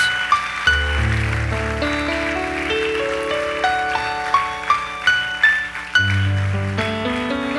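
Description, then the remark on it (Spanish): An audience applauds for Christ Jesus in a steady, dense wash of clapping, with sustained keyboard chords and a rising bass line playing underneath throughout. “Vamos, fuerte ese aplauso para Cristo Jesús.”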